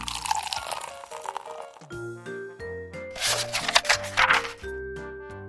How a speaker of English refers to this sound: Mama Bear poured porridge into each of their bowls.